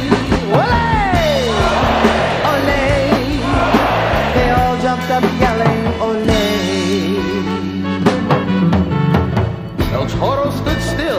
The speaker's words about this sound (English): This time he passed on his knees, and they loved him. Olé! Olé! The crowd jumped up screaming, olé!